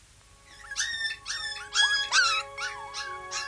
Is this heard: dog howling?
yes